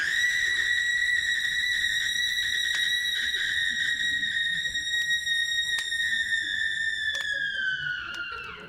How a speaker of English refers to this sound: Ah, the gong. Dinner is served.